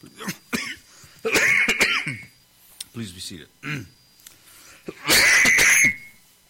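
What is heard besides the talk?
human coughing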